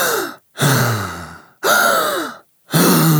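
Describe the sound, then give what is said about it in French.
A voice imitates a little boy's deep, forceful breathing before singing: three long, loud breath sounds separated by brief silences, each a drawn-out, noisy inhale or sigh with some voiced tone, with no speech. “Il se mettait à respirer. Comment est-ce qu'il faisait ça ? Il se tenait debout, tout droit, les bras tendus, les poings serrés. Il prenait une respiration comme ça.”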